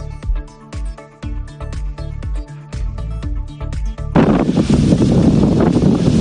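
A few seconds of rhythmic music give way abruptly to loud, roaring gusts of strong wind buffeting the microphone at the entrance to Valencia on Avenida Usías Mar, a dense rushing noise that carries on steadily to the end.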